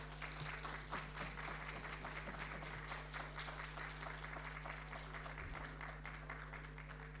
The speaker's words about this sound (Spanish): De esta forma, la entrega del premio Las Residentas de la Honorable Cámara de Diputados a la Universidad Autónoma de Encarnación. Fuertes los aplausos.